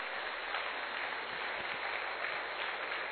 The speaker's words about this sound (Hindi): एक बार सभी कलाकारों के लिए जोरदार ताली बजाएं।